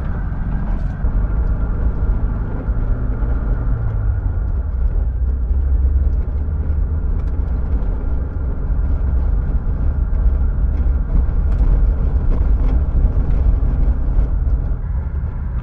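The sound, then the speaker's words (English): A bus engine drones steadily at low revs, a deep, loud, continuous rumble with a slight pitch shift early on, as the bus crawls up a steep mountain pass in first gear, with no voices. “I'm going to crawl up this in first gear. I'll let you hear some of the noise of the bus.”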